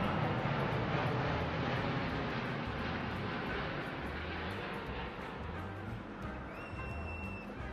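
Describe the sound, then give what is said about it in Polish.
A loud, sustained jet roar from two low-flying South African Airways airliners passing over an air show, a dense rumbling wash that stays heavy throughout with no voices. “Jak już jesteśmy przy podwójnych lotach, to zobaczcie na przelot tych dwóch pilotów linii South African na pokazach lotniczych.”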